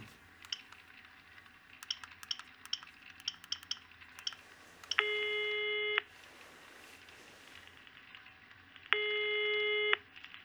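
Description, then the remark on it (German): Two long electronic ringback tones of a phone call to police headquarters (Kriminalpolizei Reutlingen), each lasting about a second, separated by a pause, over a quiet background with scattered keyboard-like clicks and taps beforehand. “Zuerst rufe ich jetzt im Präsidium an und ersuche Unterstützung.”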